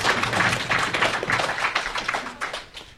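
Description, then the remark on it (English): A round of applause congratulating someone on becoming a dad again: dense, crackling clapping from several pairs of hands, steady and fairly loud for about three seconds, easing slightly at the end, with no voices. “So congratulations. Round of applause.”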